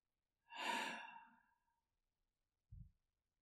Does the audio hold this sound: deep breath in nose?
yes